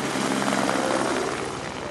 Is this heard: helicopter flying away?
yes